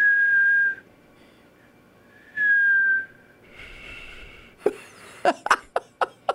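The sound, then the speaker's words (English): A person practicing whistling by blowing out: two steady, clear whistled notes with a pause between them, followed by a breathy, airy attempt and a string of short, sharp bursts like stifled laughs or coughs. “Are you breathing in or blowing out? Breathing in. No, blow and out.”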